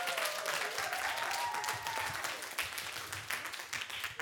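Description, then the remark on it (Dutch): A crowd applauds steadily, dense overlapping claps filling the whole stretch at an even loudness, with a faint voice or tone briefly audible beneath the clapping early on, applauding nine people from the IMC Weekendschool presented as today's freedom fighters. “Geef ze een groot applaus, de vrijheidsstrijders van vandaag.”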